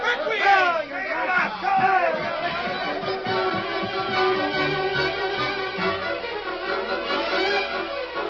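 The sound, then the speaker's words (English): A crowd of men forming a lynch mob in a cafe where a bartender was killed murmurs and grumbles angrily, many overlapping voices forming a steady, agitated babble at fairly loud level with no single clear speaker. “Cobb Morgan roused crowd into lynch mob in cafe where bartender was killed.”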